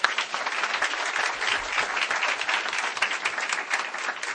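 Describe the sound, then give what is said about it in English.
An audience claps steadily for a guest speaker at a group anniversary, the dense crackle of many hands filling the whole clip at a fairly even, moderately loud level with no voices over it. “our guest speaker, and have a round of applause.”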